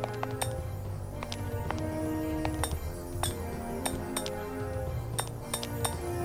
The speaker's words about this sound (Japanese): あとこのかすかに聞こえるキラキラと鐘ですね。